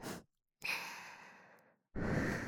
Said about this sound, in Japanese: お互いはぁはぁ言ってる。